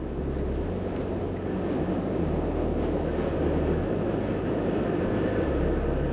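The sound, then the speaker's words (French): A steady, loud low rumble from a passing train heard underground, with a dense rattling of loose objects, such as a small metal glass left in the room, shaken by the train's vibration, continuous throughout and without any voices. “On n'entend pas vraiment le train, on entend quelque chose qui bouge parce que le train l'a fait vibrer.”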